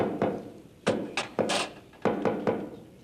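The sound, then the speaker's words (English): Someone knocks on a door in a patterned rhythm: a single rap, a quick cluster of three, then another quick burst of three, each hollow thump fairly loud, with no talking. “Oh, that knock is getting so popular, pretty soon it's gonna be in the top 40.”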